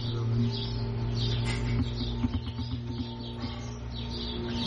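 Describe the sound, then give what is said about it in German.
Birds chirping, short high chirps repeating steadily throughout over a constant low background hum, with no one speaking. “Wann sind die Vögel auf?”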